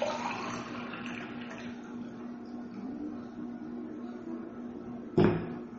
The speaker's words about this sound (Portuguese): É só um pouquinho de água. Deixa eu pôr mais água aqui antes que acabe.